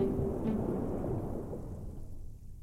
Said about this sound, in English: It is pouring a mighty rain outside, and the sound captures my memory.